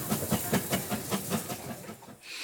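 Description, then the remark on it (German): A steam locomotive in the Harz mountains puffs along with rapid, evenly spaced chuffs over a constant hiss of steam, fairly loud, ending in a sharper burst of hissing. “Sein Beruf wird sich verändern, doch die Dampflokomotiven im Harz, sie werden wohl bleiben.”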